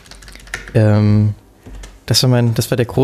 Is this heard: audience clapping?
no